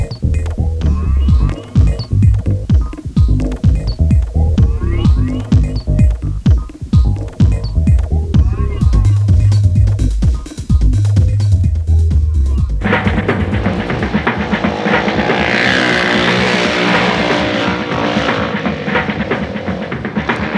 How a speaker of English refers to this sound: The motorcycle has two wheels and handlebars to steer it. It's fun to drive, and when you drive, everyone can hear it.